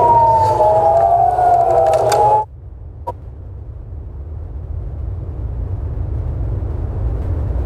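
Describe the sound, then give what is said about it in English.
A loud air raid siren in Jerusalem wails with a steady, slightly wavering tone for about two seconds, then cuts off abruptly, leaving a low rumbling outdoor background. “And explosions have been reported in Jerusalem, where air raid sirens have sounded.”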